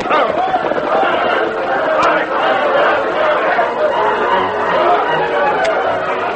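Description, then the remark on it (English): A loud, dense crowd commotion in a town, many overlapping voices shouting and clamoring at once as people run with pails of water to fight a burning building, continuous throughout, with a hurried, agitated feel. “They were just entering the town when they saw smoke pouring out of a building and a crowd of people running with pails of water.”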